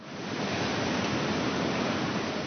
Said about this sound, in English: The Pillar Creek hatchery constantly has water running as young fish swim through runways, which are long tanks that simulate a small creek.